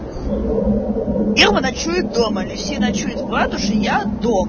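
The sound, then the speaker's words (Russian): A kettle coming to a boil gives a steady, loud rushing roar that runs unbroken through the whole clip, while people talk over it. “Ну, это чайник, он сейчас закончится делать.”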